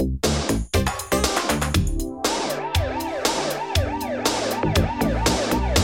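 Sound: police car siren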